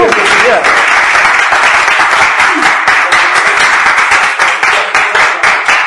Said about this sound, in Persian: دوستان تشویقش کنید بیام.